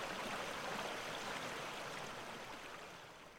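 river water flowing

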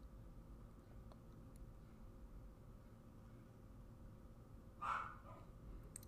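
puppy barking

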